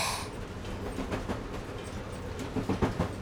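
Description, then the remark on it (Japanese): Train wheels rumble steadily over the rails, with a burst of sharp clacks toward the end as the car rolls over rail joints, loud, with no voices. “けど慌てずすぐに線路をつかみ直させたのはさすが。”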